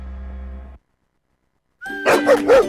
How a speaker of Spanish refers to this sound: Esos ladridos son los perritos de la Corporación Mirada Animal Chile, que están felices por el nuevo Centro de Control y Recuperación Canina.